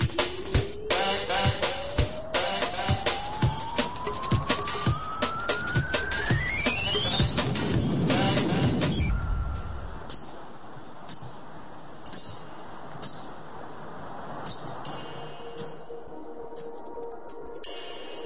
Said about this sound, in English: Columbia ground squirrels. They're very adaptable animals, not only living in the valley, but also up on the skyway around the car park.